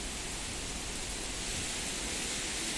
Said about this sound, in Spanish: Ha vuelto la lluvia, ya desde primera hora el agua ha regado generosamente la ciudad y nos ha traído momentos que casi habíamos olvidado: esquivar goteras, la lucha encarnizada por ver quién se aparta de las cornisas primero